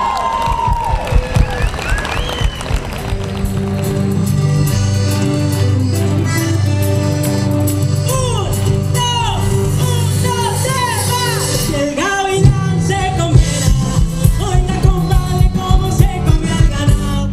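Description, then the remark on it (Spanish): An audience at Tocó Venir cheers and claps loudly to welcome a performer on stage while music plays underneath, with a steady bass line and melodic tones; the cheering fades as a punchy rhythmic beat takes over toward the end. “Vamos a dejarnos de misterio y vamos a darle un muy fuerte aplauso para recibir en el escenario de Tocó Venir”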